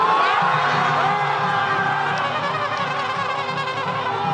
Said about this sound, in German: Das, was so klingt wie der Jubel über ein wichtiges Tor in einem Fußball-WM-Finale, ist die Begeisterung über diese Worte von Südkoreas obersten Richtern.